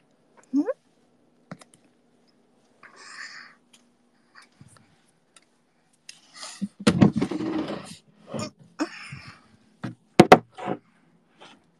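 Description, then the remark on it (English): A drawer is pushed shut, a short sliding rumble followed by a couple of sharp wooden knocks, with scattered clicks and faint rustling before it. “Let me close my drawer.”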